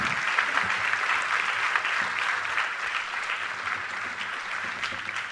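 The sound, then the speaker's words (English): A crowd applauds the youth leaders who came and served, many hands clapping in a dense, continuous patter that stays fairly even in loudness throughout, with no voices standing out. “If you're a youth leader that came with us and served, so give them a round of applause.”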